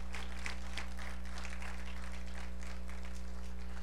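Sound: audience clapping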